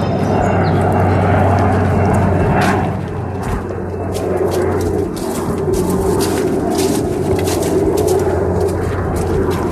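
An Airbus A320 jet airliner roars overhead: a loud, steady, broad rumble with a hissing top that dips briefly partway through, then holds at full strength. No voices are heard.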